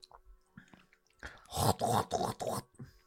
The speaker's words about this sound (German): In den letzten 10 Minuten würde ich sagen, halt mal die Fresse und knuspern ins Mikrofon. Sushi laut.